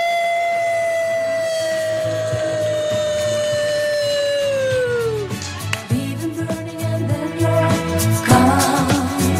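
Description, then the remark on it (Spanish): A group of women lets out a wolf-like howl as a war cry at Radio Seata, one long sustained wail that slowly slides downward in pitch for about five seconds, then breaks into a noisy jumble of shouts and clatter. “Que deberíamos de irnos, con, ya que estamos en Radio Seata, irnos con el grito de guerra de las lobas.”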